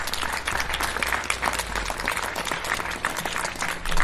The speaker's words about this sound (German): Und ich finde, wir sollten ihnen einen richtig dicken Applaus geben, dass wir diesen Gottesdienst so mit ihnen feiern, durch sie feiern können.